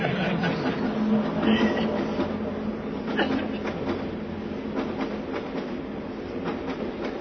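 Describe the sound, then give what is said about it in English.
A crowded, hot commuter train rumbles along steadily, a dense continuous roar of wheels and carriage noise with faint rattles and murmuring voices blended into the din. “And those who don't go by train, they drive by car.”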